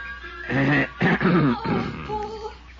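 A loud, throaty cough, delivered in a few voiced, rasping bursts that sound deliberately exaggerated, like a person performing a cough, before trailing off into softer grunting tones.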